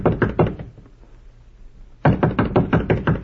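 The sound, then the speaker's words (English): Knocking on the door of hotel room number 14: a quick burst of several solid raps, a pause of about a second and a half with only a faint low hum, then another longer, steady series of loud knocks. “No, we'll knock first.”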